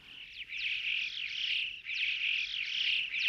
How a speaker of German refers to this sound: Zum Schluss ein Schwarm Dohlen.